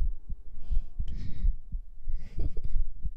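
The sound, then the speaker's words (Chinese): A quick, thumping heartbeat pulses, with soft breathy noise drifting over the steady low beats. “心跳很快，你也心跳很快。”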